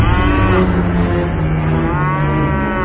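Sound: oxen lowing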